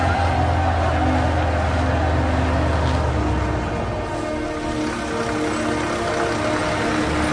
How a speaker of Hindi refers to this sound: Jordan के border के अंदर गाड़ियों का काफिला आता हुआ, खुशी में बस की खिड़कियों से बाहर लोग हाथ लहरा रहे हैं।